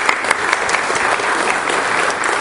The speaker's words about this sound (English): Give them a round of applause if you want to.